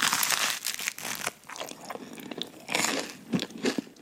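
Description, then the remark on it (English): Crunching and chewing, with repeated crisp bites and wet mouth sounds in an uneven rhythm, as someone eats crunchy garlic bread and noodles in an ASMR eating video. No talking. “Here's … eating crunchy garlic bread and noodles.”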